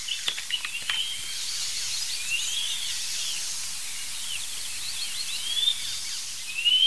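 A single bird perched directly overhead mimics an alarm system: thin, high whistles sweep upward again and again over a steady hiss, growing louder toward the end, with no one talking.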